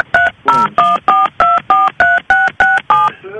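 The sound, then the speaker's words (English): A rapid series of about ten touch-tone telephone dial beeps on a shared phone line, as someone else picks up trying to dial out, evenly spaced and fairly loud, each a short dual-pitched tone, with no talking over them. “Yeah, that was somebody else picking up trying to dial out.”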